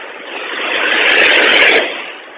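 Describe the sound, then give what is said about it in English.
A loud, rough vehicle engine roars through a noisy muffler, swelling as it draws near and easing off again over a couple of seconds, with no one talking. “You guys got some loud muffler on that.”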